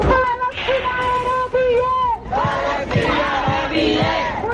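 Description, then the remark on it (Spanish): A crowd of university students shouts and chants together in loud, sustained voices at a street protest in Barcelona calling for a break in commercial and political relations with Israel and no to war, with rhythmic thumps or claps punctuating the second half of the chant. “Y en Barcelona estos son los gritos, la petición de los universitarios que a esta hora salen a la calle para pedir, entre otras cosas, la ruptura de relaciones comerciales y políticas con Israel, un no a la guerra.”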